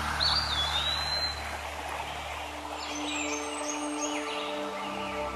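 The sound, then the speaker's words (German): A small brook in a forest babbles steadily in the background, a continuous soft rush of water, while birds chirp and whistle intermittently overhead. No one speaks. “Und nun überquerst du noch einmal den kleinen Bach, der immer noch fröhlich vor sich hin plätschert.”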